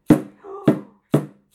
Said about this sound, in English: What if you use the edge of the shaker to bang on the drum?